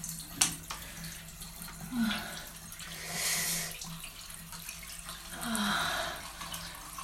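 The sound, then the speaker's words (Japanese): Shower water runs steadily with a soft, continuous hiss, swelling louder a couple of times as the spray shifts, fairly quiet, with no one talking, while the shower is used for masturbation. “まずはシャワーを当てつつ指でクリトリスいじっていきます。”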